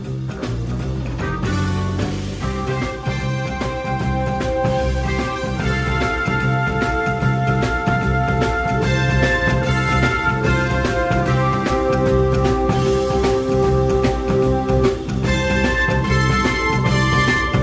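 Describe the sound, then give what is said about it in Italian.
The theme jingle of the live radio show A come America, a bright, upbeat tune playing loudly and continuously, with steady rhythmic beats, sustained melodic notes and full instrumentation, and no voices over it. “Intanto metto la sigla ancora.”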